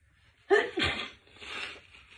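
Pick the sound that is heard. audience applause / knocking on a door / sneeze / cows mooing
sneeze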